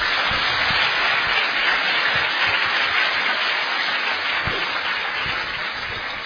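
A large audience applauds Ajahn Brahm steadily, a dense, continuous wash of clapping that stays loud throughout and eases off only slightly near the end, with no voices.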